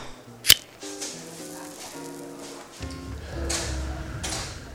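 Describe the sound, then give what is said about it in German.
A sharp wooden clunk of a chair set up on a table by a waiter at closing time, then a softer scrape later, with mellow blues music playing quietly in the background. “Der Kellner wartet nur noch auf die beiden und beginnt sobald, die Stühle hochzustellen.”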